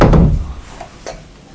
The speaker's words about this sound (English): Yeah, shut the door.